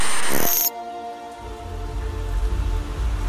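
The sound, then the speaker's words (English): Rain falls steadily on a dingy street in central London at about midnight, opening with a loud burst of bright hiss before settling into a softer patter, with low traffic-like rumble and sustained musical tones from a small basement nightclub drifting underneath. “A dingy street in central London. It's about midnight, and it's raining.”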